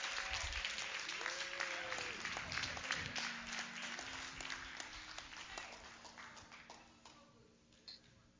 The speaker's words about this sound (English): Amen. Somebody give God a hand clap for the Bible.